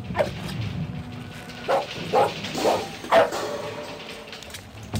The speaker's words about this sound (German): sei doch leise. Hör auf zu bellen, bitte.